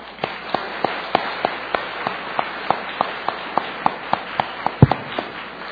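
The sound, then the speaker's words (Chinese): Steady, evenly spaced claps ring out over a soft hiss as a church audience at a Father's Day Sunday service applauds all the seated fathers. The claps stay moderately loud and regular for several seconds, with no one talking. “咁就请你係为所有坐低嘅做爹哋嘅人去鼓掌，好嗎？”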